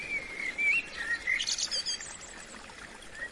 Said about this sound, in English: That blackbird could get on your nerves. Twittering the same song over and over again.